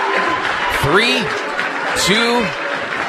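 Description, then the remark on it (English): A basketball crowd at Steve and Deb Racer Gymnasium inside McDonald Central High School in Chippewa Falls rises to its feet with 13 seconds left in the game, cheering and clapping in a steady, loud roar, with scattered shouts rising above the noise throughout. “13 seconds left. Crowd rising to its feet here.”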